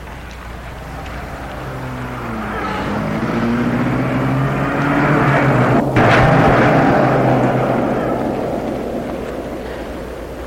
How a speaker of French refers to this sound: Et le chauffeur rentre dans la voiture et la met en route.